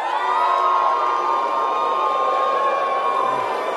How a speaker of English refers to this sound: Name after name on Hannity's list was greeted by cheering, some loud, some milder.